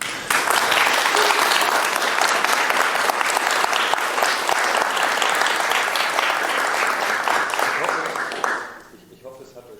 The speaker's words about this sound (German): Applaus.